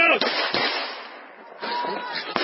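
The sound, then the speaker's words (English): Several sharp shotgun blasts, around four, go off at irregular intervals over a steady roar of crowd noise and indistinct voices, as six to eight men with shotguns try to turn back a crowd of thousands of hungry people in South Africa. “And that's 6, 7, 8 guys with shotguns trying to turn back a crowd of thousands.”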